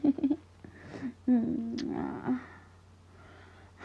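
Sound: cat meowing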